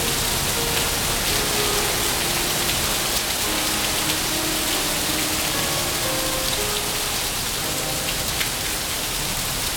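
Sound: heavy lashing rain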